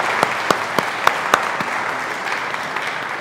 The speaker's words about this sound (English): I think it's good for us today to give our thanks Godward as we give thanks to all of our students and youth and all who lead them. We can do that tangibly with applause and push that Godward as well.